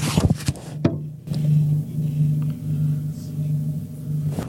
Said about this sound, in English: Listen to this drone outside my house.